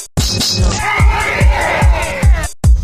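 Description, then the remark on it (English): Loud, dense yelling and screaming from several voices at once, packed close together with heavy low thumps punctuating it in a rough rhythm before it cuts off abruptly. “Quit screaming and start singing.”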